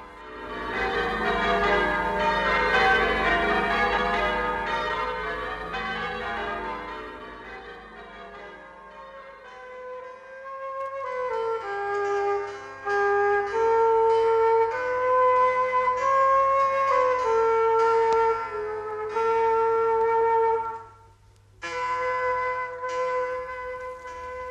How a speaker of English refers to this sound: The people accompanied him in solemn procession to St. John Lateran as the bells pealed out from the 400 bell towers of the city.